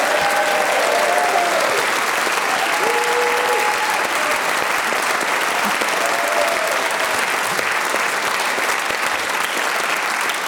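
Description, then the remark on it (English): Steady, dense audience applause for Tony Hawkes, the winner of a game show, fills the whole stretch at an even loudness, a continuous wash of clapping with a few faint tonal whoops or cheers rising briefly above it. “Please give a round of applause for tonight's winner, Mr.”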